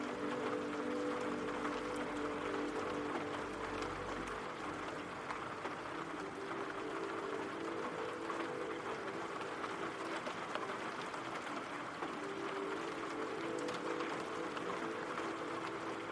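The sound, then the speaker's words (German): Steady rain falls continuously, a dense, even hiss with a soft low hum underneath, constant in loudness throughout with no voices. “Du darfst hier entspannen und den Regengeräuschen lauschen.”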